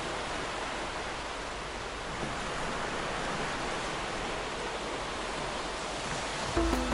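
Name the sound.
ocean waves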